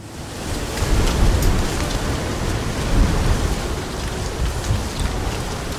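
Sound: heavy rain falling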